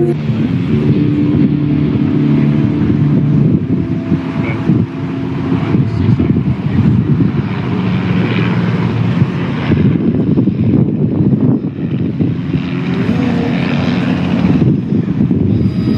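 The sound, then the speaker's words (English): A helicopter flown by a pilot friend drones loudly and steadily, its engine and rotor making a constant low throbbing roar with wind buffeting the microphone throughout; no one speaks. “But now it's time to get to the chopper!”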